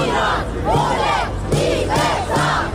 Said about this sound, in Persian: روم، پایتخت ایتالیا و فریاد زن زندگی آزادی.